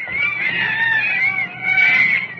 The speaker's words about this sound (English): All right, listen to those monkeys chatting.